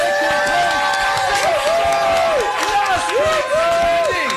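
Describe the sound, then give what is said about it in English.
A loud, sustained crowd roar of applause and cheering for the contestants tied for second place at a prize-giving, dense clapping mixed with whoops and shouted voices, with music playing steadily underneath throughout. “Ladies and gentlemen, please give them a huge, massive round of applause.”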